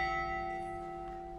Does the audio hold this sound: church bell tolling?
yes